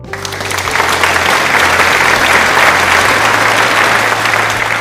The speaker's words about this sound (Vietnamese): Chúng ta hãy dành một tràng pháo tay nồng nhiệt cảm ơn những thính giả nhiệt tình của kênh chú mèo nào.